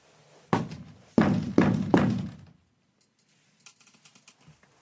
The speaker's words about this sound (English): Sorry, my cat was outside the closet door just like fucking yelling like she was dying. Like, Jesus fucking Christ, calm down. So I had to just bang on the door to get her to shut up.